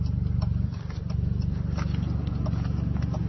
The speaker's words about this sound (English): Yes, because your exhaust is extremely loud in this car. That's why you're being stopped.